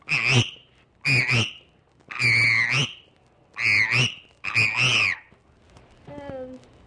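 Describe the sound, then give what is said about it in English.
A child's voice imitates a frog, recorded on a primitive recording machine, with five loud, rhythmic croaks spaced about a second apart, followed by a brief, faint tonal sound at the end. “This one's a frog.”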